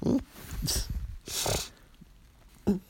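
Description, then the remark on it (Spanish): Dogs waiting for someone snort and sniff, with a few short breathy bursts of air and low snuffling sounds between them, and a brief louder grunt near the end. “Y acá los perros esperándome.”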